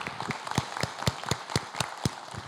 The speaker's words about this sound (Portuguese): Salve de palmas.